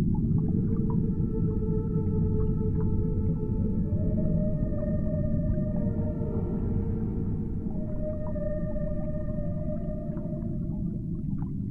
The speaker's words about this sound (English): Down into the vast depths. Down towards the songs and calls of whales.